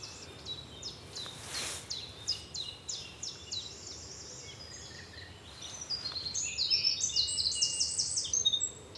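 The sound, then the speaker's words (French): A common nightingale sings outdoors, the beginning of its song, starting with a string of repeated whistled notes and building to quicker, louder trills near the end, clear with no voices. “T'as entendu le début du chant du rossignol ?”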